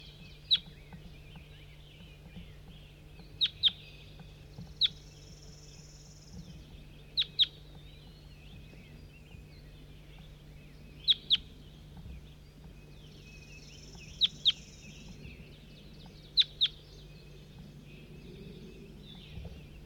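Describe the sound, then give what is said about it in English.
A bird gives sharp, high chip calls, mostly in quick pairs, repeating every few seconds over a steady low hum and faint background noise. “Start recording bird 4-3.”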